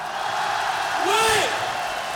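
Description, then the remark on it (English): An audience cheers in a steady, loud roar of voices, with one rising whoop cutting through the middle before the noise carries on. “The biggest cheer of the night.”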